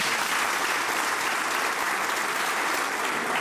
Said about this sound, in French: slameur au cœur endurci et à la langue bien déliée, et vous pouvez encore l'applaudir.